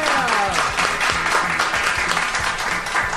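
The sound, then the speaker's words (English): The audience of the Seattle Kitchen Show radio program applauds steadily for a few seconds, a dense wash of many hands clapping at an even, fairly loud level, with a few faint voices mixed into the noise. “I have to scold the audience. Clap harder.”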